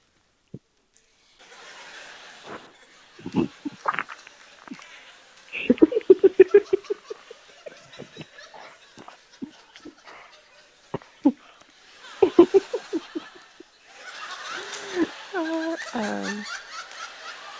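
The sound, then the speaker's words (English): Breathy play panting from an excited dog, a 'laughing' huff in quick rhythmic bursts with short pauses between, growing into longer stretches of excited exhaling near the end. “This is what dogs laughing sounds like.”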